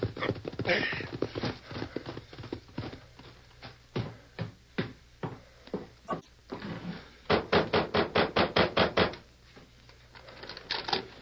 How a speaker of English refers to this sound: The hard trail in front of Pete Lander's small ranch house echoed with the hoofbeats of Clay Harper's horse as he reined up sharply and dismounted.